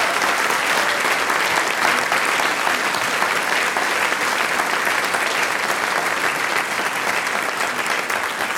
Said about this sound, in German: Und da möchte ich mich extra nochmal bei ihm und seinem Team bedanken. Danke. Applaus ist das Brot des Künstlers.